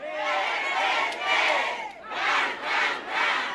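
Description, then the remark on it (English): A large crowd of supporters wearing red, in one of a border city's poorest neighborhoods, cheers and shouts loudly as they greet the politician Hank, the younger, arriving on the campaign: a dense roar of many voices swelling in waves, dipping briefly before rising again in several rhythmic surges. “Arriving in one of the border city's poorest neighborhoods, the younger Hank is greeted by a sea of supporters wearing Hank's signature color, red.”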